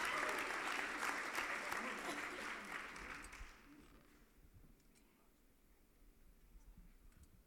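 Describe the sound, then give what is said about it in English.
An audience claps steadily, a dense wash of many hands for about three seconds, then the applause thins and fades out, leaving scattered faint clicks and low rumble. “Whoever wanted to applaud, thank you.”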